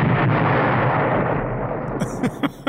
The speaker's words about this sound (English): we're just talking about little explosions here, just powerful enough to make a sound. Okay, well, I guess it's fine then. In the UK, they call these detonators